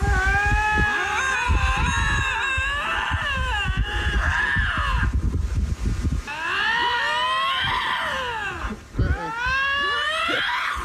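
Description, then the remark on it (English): Two lynxes standing face to face in a showdown yowl back and forth in long, wavering, sliding cries that overlap and swell in loudness, sounding harsh over a low rumbling background. “These are cats making this noise.”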